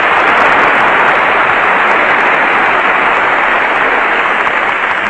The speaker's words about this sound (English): There are so many in the orchestra, I guess by the time you divide that applause up, it'll run into fractions.